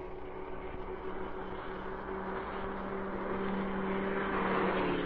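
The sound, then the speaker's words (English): A police car drives past, its engine a steady low rumble that swells slightly louder toward the end, with no siren and no voices. “Put out your lights so that police car goes by.”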